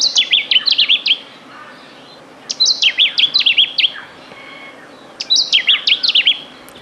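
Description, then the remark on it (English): A lemon-bellied flycatcher calls in three quick bursts of bright, high, warbling chirps, each phrase lasting about a second and separated by short pauses, heard alone with no talking. “Philip Emery from Tasmania was in first to tell us it was the lemon-bellied flycatcher”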